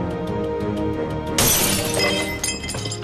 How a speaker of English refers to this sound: He takes a hammer from the garage, checks no one is around, and smashes a pane of glass in a door.